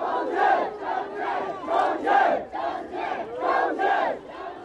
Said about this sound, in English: Minutes of silence have turned into many, many minutes of raucous cheers and chanting. It's interesting. It's certainly not a celebration. It's not a protest. But it's a rallying, it's a patriotic rally.